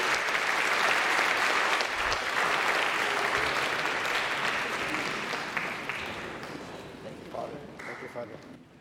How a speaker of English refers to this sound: Let her offer our applause by way of recognition. Thank you.